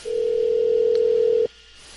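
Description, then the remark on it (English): A single steady electronic ringback tone from an outgoing phone call to a person on another connection, sounding loud and clear for about a second and a half before cutting off abruptly into quiet. No one speaks. “Should be ringing.”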